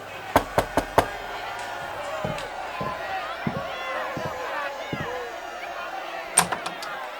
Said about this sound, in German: Der erste Detektiv klopfte an die Tür.